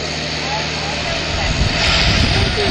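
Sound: tractor engine running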